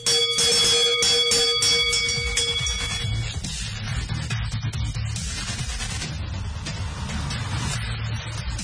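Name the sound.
large bell being rung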